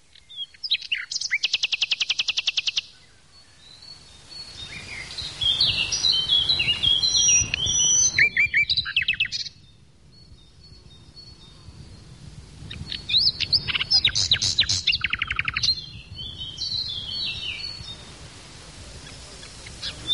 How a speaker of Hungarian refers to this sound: Hermann Ottó szavai után most hallgassunk egy részt a Fülemüle énekéből.